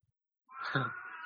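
A single drawn-out house cat meow from behind a door, rising then holding steady, moderately loud and alone, with a slightly muffled quality; the cat meows in response to people talking.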